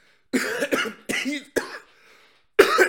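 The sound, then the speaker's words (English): A run of harsh, raspy coughs: four quick bursts in close succession, a pause with a faint breathy trace, then one more loud cough. No talking alongside. “Apparently I still need some fucking cough drops.”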